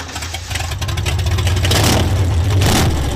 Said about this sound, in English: But unlike most working bull chasers, Thornton and River have installed a shiny new V8 engine in theirs.